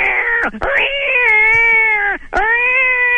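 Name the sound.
cat meowing loudly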